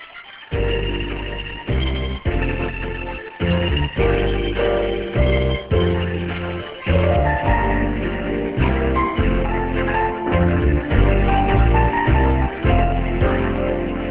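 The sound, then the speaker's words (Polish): A loud musical jingle with bright, ringtone-like melodic notes over a steady backing, playing on its own for about fourteen seconds in short repeated phrases, with no voices; the familiar signal opening the phone-in greetings segment on Radio Maryja. “Znajomy sygnał zaprosił nas na czas telefonicznych życzeń i pozdrowień na antenie Radia Maryja.”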